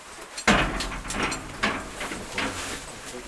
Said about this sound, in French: La porte se referme et le royaume minéral souterrain vous accueille.